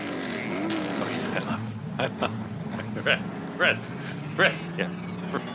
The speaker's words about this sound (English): Yeah, Rhett's Terrell's family getting excited because he's revving the engine.